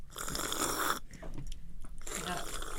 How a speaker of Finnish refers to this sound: karate-jengin vesijuominen kuulostaa kans hyvin harvinaiselta. Se on erikoisuuksia, nämä teidän syömiset ja juomiset.